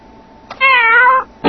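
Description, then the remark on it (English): A single loud cat meow, steady and drawn out for about half a second, with short clicks just before and after it and no talking. “The cat's wrong.”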